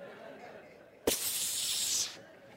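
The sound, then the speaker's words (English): A person voices a loud, sharp snake hiss imitating a viper, a single sustained breathy burst lasting about a second that starts abruptly and then cuts off, with no words spoken. “And that as soon as that is brought up, that viper comes up like this.”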